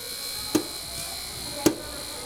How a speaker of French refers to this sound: C'est la bassine qui tape un petit peu contre le frigo. C'est pas agréable, ça.